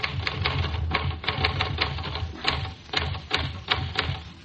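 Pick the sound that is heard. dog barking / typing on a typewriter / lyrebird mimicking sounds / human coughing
typing on a typewriter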